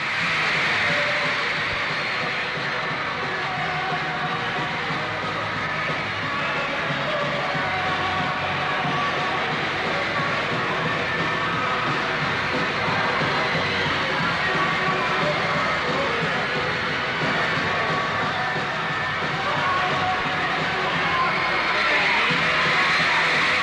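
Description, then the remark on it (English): A packed audience at a band's concert at Olympia Stadium in Detroit screams and cheers nonstop, a loud, dense, high-pitched roar that never lets up across the whole stretch, swallowing everything else. “After the screams, the crying, the show of love and excitement, the audience filed out,”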